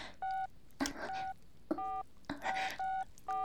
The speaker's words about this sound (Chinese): 我一听， 立马拿出手机拨打号码。